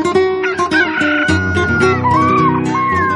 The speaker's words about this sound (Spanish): Después de una semana de días nublados, por fin, el sol está a punto de mostrar su rostro en Agua Dulce. Las escasas nubes se pintan de rosa y púrpura. Las aves se despiertan